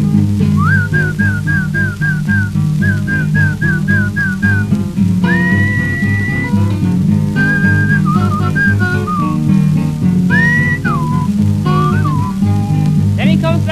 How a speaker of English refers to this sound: I thought about what Papa said. You was a horse. I must whistle for you. Something like this.